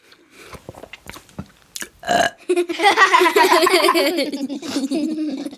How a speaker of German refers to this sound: Wenn du also was zu essen bekommst, dann kannst du rülpsen. Das können wir auch. Aber nicht so laut wie ich. Pass auf.